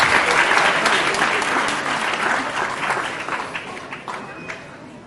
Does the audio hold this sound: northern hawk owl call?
no